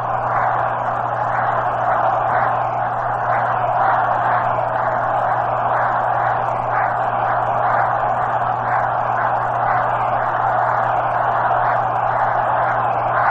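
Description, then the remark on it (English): A baseball stadium crowd at a Reds game cheers in a steady, loud roar as Ron Hunt comes to the plate with the Reds leading 2-0, swelling in regular rhythmic surges like chanting or clapping, with a constant low electrical hum underneath and no one speaking. “Listen to that crowd.”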